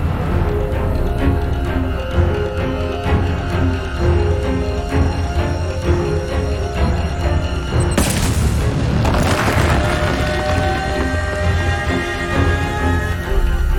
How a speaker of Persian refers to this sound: ای وای، تو زندان آیرن هایتس یه انفجاری رخ داده. اینا همه برای گمراه کردن بود. زندان هدف اصلی بوده.